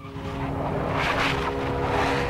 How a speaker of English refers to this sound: They drive up the grassy slope.